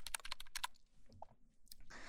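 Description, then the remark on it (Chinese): A quick flurry of soft plastic key presses on a small numeric keypad for a computer, with ordinary non-mechanical keys, followed by a few scattered taps and a brief rustle at the end, fairly quiet. “就是电脑那个小键盘，上面有数字的那个，那几排的那个那种，长得特别可爱。”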